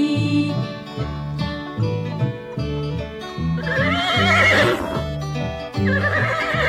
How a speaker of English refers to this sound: Fee deedle dee deedle dee dee dee, the horse is talking to me.